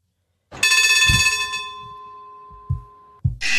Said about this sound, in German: Das ist die Hupe von der Straßenbahn. Boah, die Hupe.